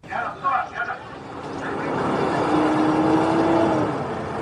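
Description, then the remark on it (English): An Israeli military jeep, a Palestinian man stretched out on its bonnet, drives past waiting Palestinian ambulances on a winding village road outside Jenin; its engine swells into a steady rising hum and road noise that holds loud before easing slightly; brief voices are heard at the very start. “On a winding village road outside Jenin, an Israeli military jeep drives past waiting Palestinian ambulances.”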